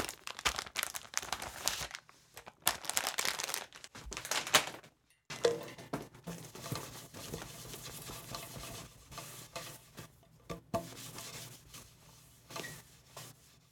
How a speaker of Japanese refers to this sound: いや、待て。なんだこのテーブルと椅子の汚さは。ウェットティッシュ、ウェットティッシュ。